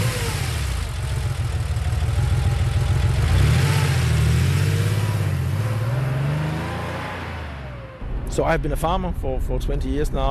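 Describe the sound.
A 4x4 engine hums and drones steadily as it drives about 30 km south, its pitch rising as it accelerates, then fading as a person begins talking over the last couple of seconds.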